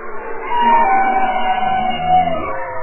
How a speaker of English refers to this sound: Kate Stafford is a biologist and oceanographer at the University of Washington, and she and her colleagues have been cataloging that soundscape of the deep, like these bowhead whales and bearded seals.